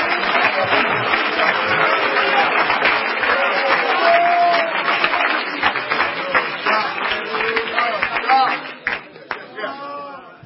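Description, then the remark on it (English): An audience claps hands in worship of the Lord in a steady, dense patter for about ten seconds, with voices mixed in beneath the clapping before it thins out and fades at the end. “Oh, would you clap your hands and let's worship the Lord together.”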